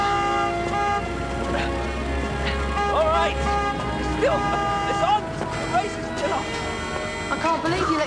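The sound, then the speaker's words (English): Several car horns blare at once in traffic on London Bridge, London, as a line of cars builds up behind a lone runner; long sustained honks layered over each other with a low engine rumble and brief voices underneath, loud throughout. “There are no other competitors around him, just a line of cars building up behind him.”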